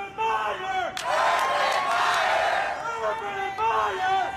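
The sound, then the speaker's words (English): A protest crowd in fall 2018 supporting coach Urban Meyer chants "Urban Meyer" in loud, rhythmic unison, with a swell of cheering and shouting in the middle before the repeated chant returns. “I led the greatest Urban Meyer chant that you can ever imagine.”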